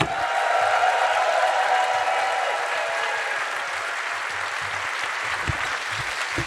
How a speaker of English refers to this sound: Clap your hands for the pair of them!